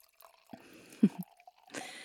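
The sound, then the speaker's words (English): Wine trickles into a glass: a few soft drips and splashes, then a short, hissing pour near the end, all fairly quiet with no talking. “I love relaxing with a handsome man at my side and a good wine in my glass. Perhaps you could pour us some?”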